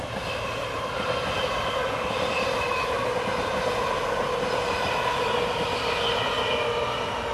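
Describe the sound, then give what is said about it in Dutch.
A train rolls past on the railway, a loud, steady rumble with a hissing, rattling wheel noise that holds constant throughout, with no voices. “Heeft u veel last van het treinlawaai?”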